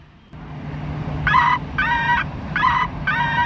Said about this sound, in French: Ça, c'est des cris de mouettes rieuses, mais naturelles. Et on va vous mettre maintenant les mêmes cris, mais synthétiques.